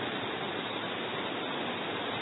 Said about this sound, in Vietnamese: Các vị mưa làm gì mà mưa to thế, thôi giảm bớt mưa đi, mưa mọi người không nghe được.